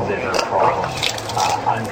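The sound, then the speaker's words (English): Wet splashing of vomit with steady dripping and squishing, a continuous liquid clatter that swells and eases over a couple of seconds. “You can hear all of it splashing.”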